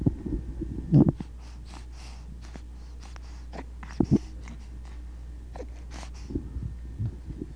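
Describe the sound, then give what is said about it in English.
Quiet wet mouth sounds, with tongue clicks and smacks scattered irregularly over soft breathing, plus a couple of slightly louder bursts against a low background hum. “There's a lot of tongue work going on.”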